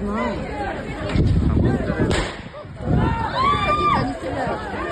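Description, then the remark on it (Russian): A few sharp, booming gunshots are fired at a crowd of riot participants in the town of Korkino, ringing out over the noisy shouting of the angry crowd, with the bangs spaced irregularly a second or so apart amid continuous babble. “Еще одно уголовное дело возбуждено после стрельбы по толпе участников беспорядков.”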